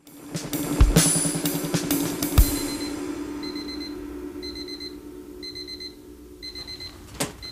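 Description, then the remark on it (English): An electronic alarm clock beeps in rapid repeated bursts, high and piercing, as a song's final notes ring out and fade beneath it. No one speaks. “Oh, that's the only bad bit about that song is that's exactly the sound of my partner's alarm clock.”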